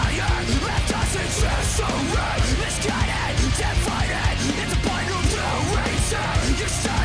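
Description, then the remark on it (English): Loud, dense rock music by a Japanese band, an anime opening theme sung in English, plays steadily throughout, with harsh screamed vocals over pounding drums, crashing cymbals and distorted guitars, continuous with no pauses. “I only mean stretch because he's screaming.”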